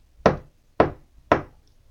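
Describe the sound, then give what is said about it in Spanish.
Three loud, heavy, forceful knocks on a castle door during torrential rain, evenly spaced about half a second apart, with a short resonant thud after each, and no voices. “De repente se oyó cómo alguien golpeaba la puerta del castillo con fuerza.”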